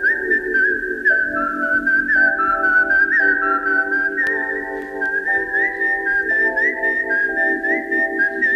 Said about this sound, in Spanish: Entonces, arranco yo, si os parece, con uno para mí de los silbidos más míticos de la historia del cine.